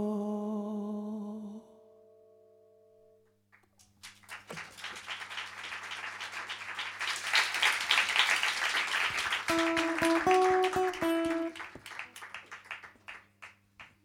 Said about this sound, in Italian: Che scarsi sti applausi di Radio Popolare. Sì, in effetti sì, mi dispiace. C'è un po' di... Purtroppo il pubblico è quello, abbiamo trovato questi.